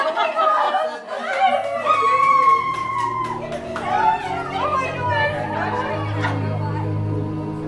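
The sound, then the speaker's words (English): An overflow crowd, with people standing, chatters all at once, many overlapping voices forming a steady, fairly loud babble with occasional bursts of laughter and a low hum underneath. “We've got an overflow crowd. I mean, people are having a stand up.”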